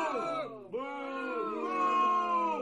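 A crowd booing sound effect: many voices holding a low, droning 'boo' that overlaps into a sustained jeer. It dips briefly near the start, then swells back and carries steadily to the end.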